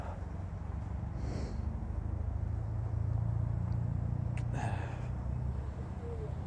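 A car engine idles steadily, a continuous low rumble with no one talking, broken only by a couple of brief hissy bursts near the start and toward the end.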